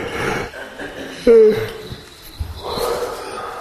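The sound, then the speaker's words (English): A person yawns while stretching, a breathy inhale rising into a short, loud voiced groan, then trailing off into soft exhaled breath. No one speaks. “Yawn.”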